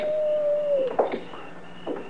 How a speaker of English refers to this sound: Your coyotes is as lonesome as they sound.